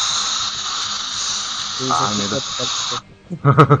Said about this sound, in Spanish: Quise limpiar mi teclado con aire comprimido y creo que me lo tragué todo.